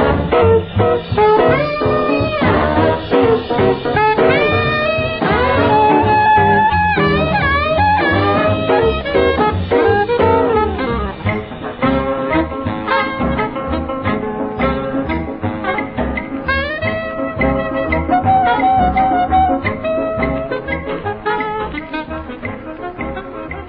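A loud, upbeat big-band jump blues record from May 1950, played on WJZ AM and FM radio, with honking saxophones, brass riffs and a driving swing rhythm, playing continuously with a slightly dated, band-limited sound.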